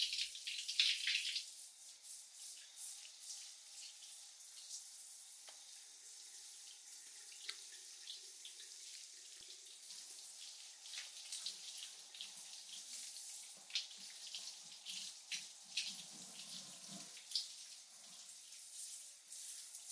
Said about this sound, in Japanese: はい、それじゃあ体についた泡をシャワーできれいに流していこっか。